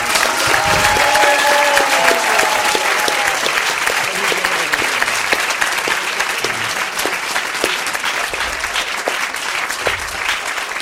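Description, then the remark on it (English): Sustained audience applause for the actors, a dense steady wash of many hands clapping loudly, with a few sharper individual claps and faint whistle-like tones early on, holding level for about eleven seconds. “A round of applause for the actors again.”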